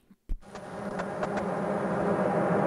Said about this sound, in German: Oh, deine Klimaanlage ist ganz schön laut, Bruder. Oh, du fährst sie gerade hoch, oder?